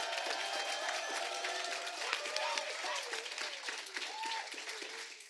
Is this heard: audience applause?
yes